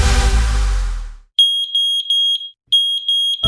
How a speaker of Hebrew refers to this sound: העשן עלול להרוג עוד לפני האש. בשריפה, או שגלי העשן יאיר אתכם, או שלא תתעוררו בכלל. התקינו גלאי עשן בביתכם. זה פשוט להציל חיים.